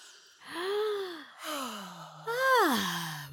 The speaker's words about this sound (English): This is your weekly reminder to take a deep breath.